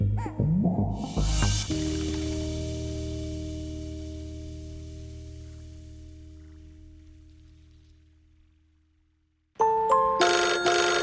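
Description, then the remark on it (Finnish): A phone rings with an electronic ringtone for an incoming call: a bright melodic chime rings out and fades slowly over several seconds, then after a short silence another burst of tones starts, loud. “Ja nyt soittaa”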